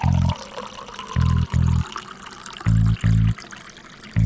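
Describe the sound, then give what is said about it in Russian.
Homemade brew (braga) pours into a glass in uneven glugging spurts, about five bursts separated by short pauses, with a faint trickle between them and no voices. “О, заебись, я тоже давай наливаю.”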